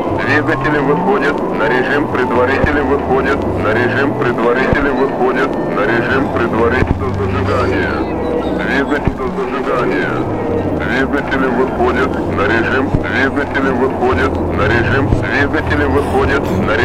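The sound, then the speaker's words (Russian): A loud, continuous rocket-engine roar rumbles steadily at launch after the ignition command as the engines come up to preliminary mode, deep and powerful with a shifting low drone, while a voice talks over it in Russian. “Двигатели выходят на режим предварительный выход. Команда зажигания.”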